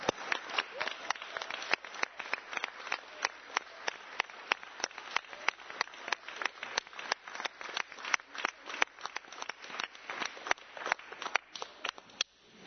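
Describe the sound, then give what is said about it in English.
An audience at a meeting applauds steadily for about twelve seconds after a musical performance by a choir, a dense patter of overlapping claps with individual sharp hand slaps standing out, holding a fairly even level before stopping abruptly. No one speaks. “How about one more applause?”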